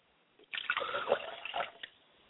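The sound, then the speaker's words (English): Liquid is poured out as a libation to the south in a short splashing trickle lasting just over a second, with a few faint drips at the end and no voices. “And finally, I pour libations to the south, and I say, Ashe.”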